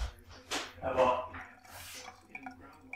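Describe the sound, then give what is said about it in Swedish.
Water runs and splashes briefly as someone fills a glass of water for themselves, with light clinks of glass and dishes and muffled voices in the background. “Och nu hämtar du glas vatten till dig själv.”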